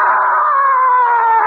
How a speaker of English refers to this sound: A tiger, he paced. And I went up to him. And I dared him. Yeah! And the tiger screamed.